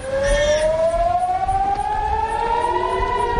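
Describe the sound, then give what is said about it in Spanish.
A loud air raid siren alert wails steadily in the morning in Haifa, Israel, its tone slowly rising over a few seconds, with faint background rumble and no voices. “El de las alertas de las sirenas antiaéreas.”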